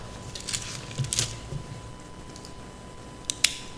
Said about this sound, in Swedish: Och en penna så ramlar den ner.